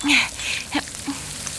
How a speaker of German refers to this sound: So eine Pfanne wird nämlich ganz schön heiß. Aha. Mhm. So, alles bereit? Bereit. Dann ab mit dem Teig in die Pfanne.